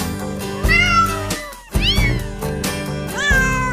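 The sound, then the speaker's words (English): Real cat meows arranged into a Christmas melody, several rising-and-falling mews in sequence over a steady musical backing, loud with no talking. “And they're all real kitties and real doggies and all those animal sounds,”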